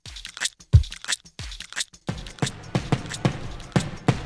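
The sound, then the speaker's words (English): Fireworks crackle and pop in a quick, uneven string of sharp bursts, some with a dull low thump, over a faint background hiss, with no voices, at a festival in Japan. “Oh, there's fireworks. There's a Japanese record. It's recording, a field recording of a festival in Japan.”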